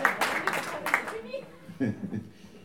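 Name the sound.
audience applause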